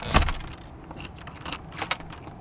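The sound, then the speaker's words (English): Loose coins of change are scooped up, opening with a sharp clatter and followed by a few light, scattered metallic jingles and clinks, with no talking. “He scoops up some change to buy snacks at the airport and heads out to catch his bus.”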